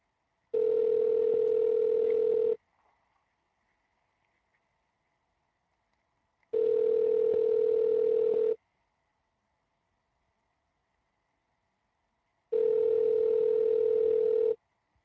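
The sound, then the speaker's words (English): Three long ringback tones from an outgoing phone call, each about two seconds, separated by roughly four-second pauses of near silence, steady and clear with no talking. “give Cobra a call. I believe this is his phone number.”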